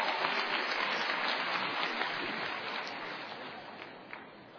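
Sustained applause from a large audience welcoming xiangsheng performers Yue Yunpeng and Shi Aidong. A dense, steady wash of clapping holds throughout and tapers slightly toward the end, with no voices.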